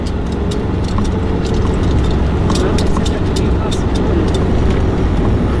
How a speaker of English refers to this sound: One truck. Looks like they're getting something. Or they're filling something. That's a backhoe.